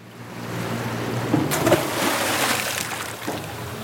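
An anchor splashes suddenly into shallow water off a wide, deserted sandy beach midway through, followed by sloshing and a smaller splash near the end, over the steady low drone of an aluminium boat's idling engine and lapping water.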